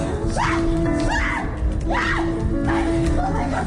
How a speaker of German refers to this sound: Und so geht es munter hin und her, manchmal auch mit wollüstigem Gekreische.